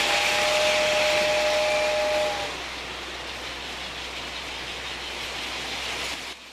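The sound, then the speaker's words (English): A small model railway train whirs steadily along a track set up in a bedroom, with a bright whistle-like tone for the first couple of seconds before the running noise continues alone and then cuts off. “wakes and looks round at the model railway, then at Arthur”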